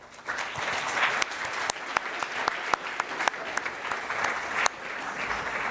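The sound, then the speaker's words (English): A crowd applauds steadily for several seconds, a dense wash of clapping with sharper individual claps popping out, holding at an even, moderately loud level, welcoming a speaker introduced to give a talk at the CCC. “And please welcome him with a warm applause.”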